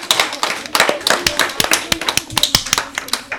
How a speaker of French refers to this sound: On peut les applaudir!